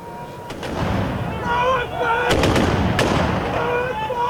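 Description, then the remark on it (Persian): Sharp, loud cracks of gunfire and blasts ring out several times, around one per second, over a continuous roar of background noise and faint voices in Tripoli, the capital of Libya, during continuing airstrikes and explosions. “پایتخت لیبی تنها فرودگاه فعال شهر تعطیل شده و گزارش‌ها حاکی از ادامه حملات هوایی و انفجارها در پایتخت است.”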